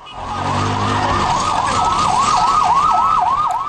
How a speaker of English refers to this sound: Hear the sound of sirens as paramedics ran with empty stretchers toward people injured after a Palestinian crashed his car into a bus stop in one neighborhood of Jerusalem last week.